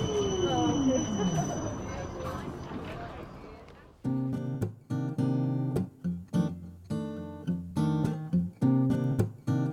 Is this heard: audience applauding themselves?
no